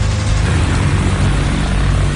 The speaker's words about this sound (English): But the backup C-46 isn't winter ready. With only 8 hours left before Buffalo's contracted delivery deadline lapses, the big cargo plane must take a test flight.